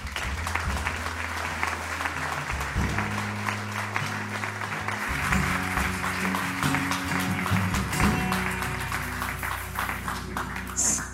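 A crowd applauds steadily, a dense wash of many hands clapping at an even loudness for about eleven seconds, with a low hum or tones sounding underneath.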